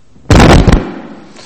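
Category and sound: sound effect, fireworks exploding outside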